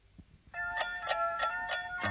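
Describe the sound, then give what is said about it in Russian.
A clock strikes the hour as the New Year approaches, with a quick, steady series of about five bright chimes over a sustained ringing tone, clear, with no voices. “Уже часы бьют.”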